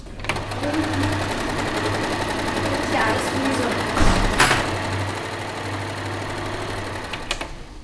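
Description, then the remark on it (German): A sewing machine, probably sewing costumes, runs steadily for the whole stretch, its rapid, even needle clatter riding over a low motor hum, with a brief louder burst partway through. “Oh, der wird genäht. Wahrscheinlich Kostüme.”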